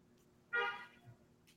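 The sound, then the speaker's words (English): A single short car horn honk blares from outside, loud and brief with a harmonic tone, then fades into quiet background hum. “The car agrees.”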